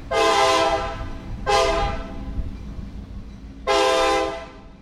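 A train horn blows three long, loud blasts over a steady low rumble of a passing train, the last blast sustained longest, with no voices.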